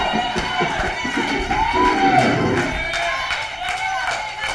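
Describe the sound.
A church audience shouts and cheers together in praise, a loud, steady din of overlapping voices, with scattered claps and thumps running through it for several seconds.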